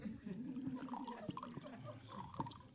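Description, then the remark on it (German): Wine pours steadily from a cask tap into a glass, a continuous gurgling trickle whose pitch shifts as the glass fills, lasting a few seconds. “Voilà, ein Glas Girard für Sie.”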